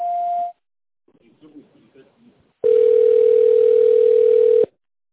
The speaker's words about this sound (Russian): Если вы знаете добавочный номер сотрудника, наберите его в тоновом режиме после звукового сигнала или дождитесь ответа секретаря.